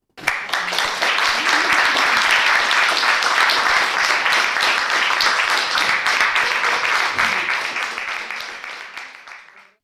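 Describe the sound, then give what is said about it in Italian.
Sustained audience applause at the close of Plautus's comedy Menaechmi (Menecmi), a dense steady crackle of many hands clapping that holds at full strength for several seconds, then slowly thins and fades away at the end. “E ora, spettatori, statevi bene e fateci un bel applauso.”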